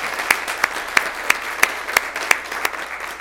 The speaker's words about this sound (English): I think we ought to give him a round of applause.